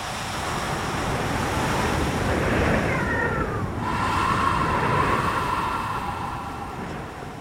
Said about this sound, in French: il y a une vague qui remonte un peu plus et elle vient vous mouiller les pieds